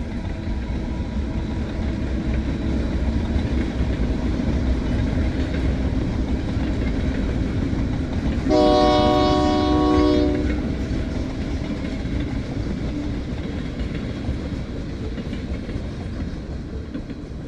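A train in Brno rumbles steadily along the rails for the whole stretch, a dense low roar close by, with a loud horn blast sounding for about two seconds midway through. No one speaks.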